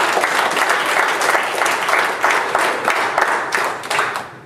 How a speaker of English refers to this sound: Give them all a hand of applause.